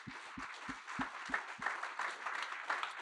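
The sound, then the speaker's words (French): A church audience applauds together to thank the cleaning, maintenance and works teams, a dense wash of many hands clapping steadily, with a few low thumps in the first second and a half before the clapping carries on evenly. “Et je pense qu'on peut les applaudir pour les remercier ce matin.”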